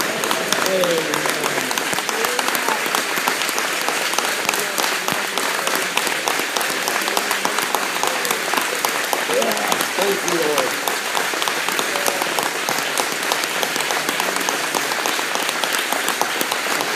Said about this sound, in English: Let's give him a clap offering tonight. Praise the Lord.